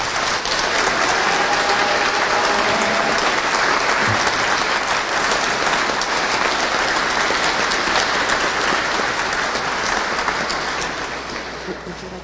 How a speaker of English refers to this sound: So let's have a round of applause for Sarian.